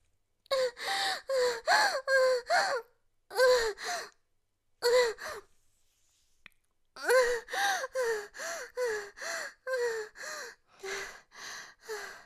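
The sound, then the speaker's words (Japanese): Heavy, rapid panting from someone out of breath after climaxing: a long series of breathy, partly voiced gasps in a steady rhythm, broken by a couple of brief pauses, with no talking. “ちょっとごめんね、息がいっぱいいっちゃったからハァハァしちゃっててごめんね。”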